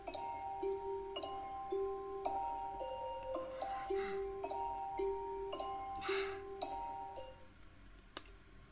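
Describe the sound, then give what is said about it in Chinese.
A phone rings with a melodic ringtone: a steady run of bright, chiming notes stepping up and down in a repeating tune, moderately loud with no talking, ending in a sharp click. “他给我打电话了。”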